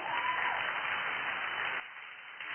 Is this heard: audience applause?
yes